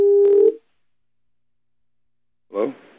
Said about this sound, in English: Yeah, you still there? Yeah, I'm sorry. There's just like a beep or something.